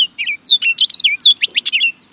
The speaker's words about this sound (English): But busy as he was, the birder president took time to list 91 bird species he saw or heard on the White House grounds, including that orchard oriole.